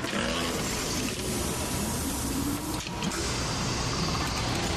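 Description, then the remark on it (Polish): A huge, heavy door, door number 1, grinds open with a steady, loud mechanical rumble and a low creaking drone, briefly dipping near the end before the noise carries on. No one speaks. “Jakieś ogromne, ciężkie drzwi i...”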